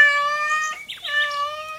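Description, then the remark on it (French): A cat meows twice in quick succession, two long, drawn-out, high-pitched cries with a brief break between them, clear with nothing else around. “Le chat répond.”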